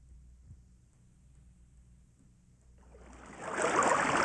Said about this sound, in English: As you remember from yesterday's episode, Commander Action and his faithful companion Stanley are on a bamboo raft being swept down the raging Zambezi River toward a fearsome waterfall.